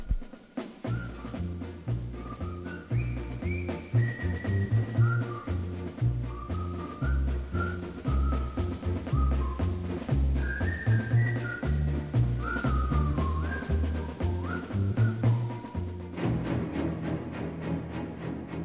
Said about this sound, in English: You and I, by whistling, can maintain our spirits high. With rhythm, we can bridge the River Kwai.